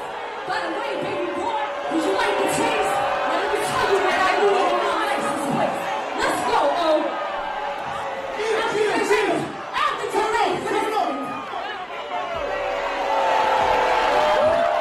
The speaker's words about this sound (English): Here's the booing part.